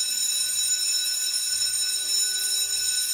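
A school bell rings continuously to start classes, with a loud, harsh, high-pitched electric clang that fills the whole stretch without pause.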